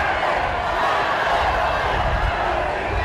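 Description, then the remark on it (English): A large crowd shouts and chants the name Sharon together, a dense, steady roar of many voices that stays loud and unbroken for the whole stretch. “They're shouting Sharon.”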